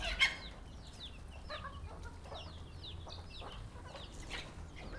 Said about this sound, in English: He's a wonderful white chicken. Beautiful. Awesome.